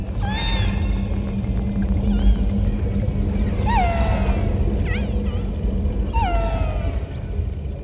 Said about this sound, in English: These are orcas in a recording we got from Disney Nature Soundscapes.